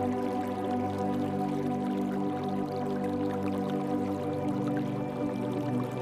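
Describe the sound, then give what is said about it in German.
A babbling brook heard in the distance flows steadily, its continuous water sound holding an even, moderate level throughout, with no voices present. “In der Ferne hörst du das leise Plätschern eines Baches.”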